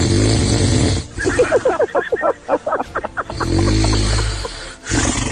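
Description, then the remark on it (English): Loud snoring by a man during a night's sleep, scored 80-82 on a snoring score: a rough, rumbling drone breaks into a quick run of rattling, growl-like pulses before settling back into a steady low rasp. No one speaks. “You know, as last night's snoring score was 80-82, so you can take a guess for yourself.”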